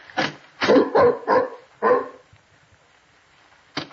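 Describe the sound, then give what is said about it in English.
A dog named Tiberius barks in a quick burst of five loud, harsh woofs, the middle three tightly bunched, then falls quiet before a sixth bark cuts in at the very end. “You hold Tiberius's collar while I open the door. Here, boy. We don't want him to fly at anybody.”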